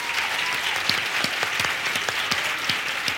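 Steady audience applause, a dense wash of many hands clapping continuously with scattered sharper claps popping out, sustained at an even, fairly loud level with no voices.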